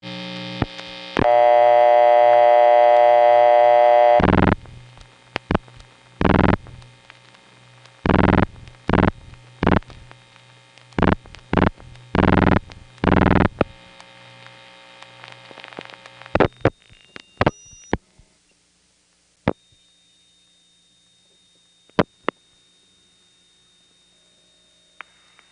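A long-distance call to York, Pennsylvania placed from the Fairview Avenue number one crossbar line: a steady dial tone, then a run of loud, irregular relay clicks and clunks from the crossbar switching equipment, fading to faint ticks and a quiet line.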